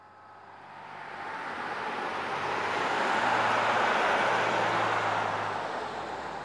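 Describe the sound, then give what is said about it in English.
The last bus rumbles past, its broad engine and road noise swelling to a peak, then easing off slightly as it pulls away. A low, steady drone runs underneath, with no voices. “Oh no, there goes the last bus.”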